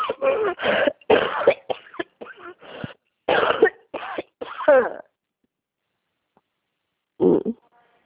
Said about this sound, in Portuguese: Está dando umas gripes muito fortes, né? Bastante gente está ficando bem ruim assim mesmo, sumindo voz, né? Com uma tosse bem forte.